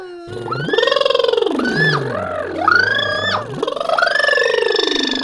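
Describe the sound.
A voiced lip trill imitating a helicopter, done as a voice exercise: a fluttering buzz that glides up and down in pitch over about five seconds, with a few quick drops and rises, fairly loud and continuous.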